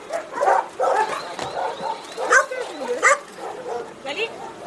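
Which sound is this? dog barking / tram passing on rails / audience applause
dog barking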